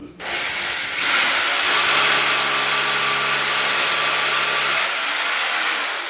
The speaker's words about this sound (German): Erst wird das Loch gebohrt, dann gesäubert und schließlich kommt der Dübel rein.